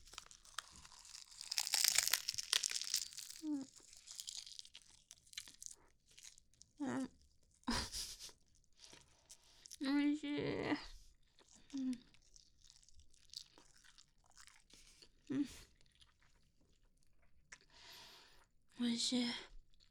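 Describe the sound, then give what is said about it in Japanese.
Crisp nori seaweed on an onigiri rice ball crackles and crumbles off as someone opens and eats it, a dense crinkly burst at first, then scattered short crunches and chewing, with soft, quiet talk in between. “あ、やっぱりほら海苔は、海苔がボロボロこぼれちゃう。”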